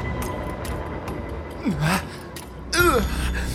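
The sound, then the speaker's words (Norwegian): A person gasps and strains for air in two strained, voiced bursts, fairly loud, with a short pause between them over a faint background hum. “Jeg får ikke puste.”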